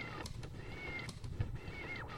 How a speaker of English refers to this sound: You even hear a cat. You can hear his cat. Did you just hear that? That was his cat. That's a cat! I heard the cat.